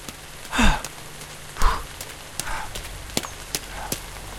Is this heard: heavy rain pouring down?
yes